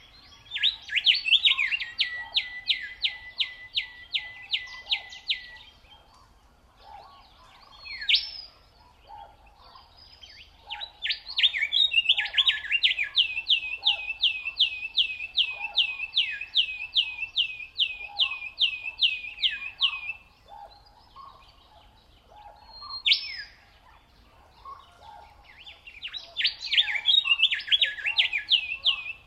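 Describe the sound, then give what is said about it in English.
A willy wagtail sings for its mate in the Australian outback in long, rapid chattering phrases of repeated notes, loud, with short pauses between bursts and no voices present. “This is a willy wagtail singing for its mate on the Australian outback.”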